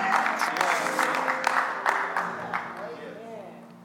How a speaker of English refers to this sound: Come on. I need a few more of you to clap like you've been through something and came out on the other side of it and recognize it was really for your good and not for your evil, not for evil.